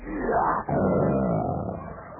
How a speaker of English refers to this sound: And as the night wore on, my feverish mind was frightened by the sounds of the jungle. The roar of the lion.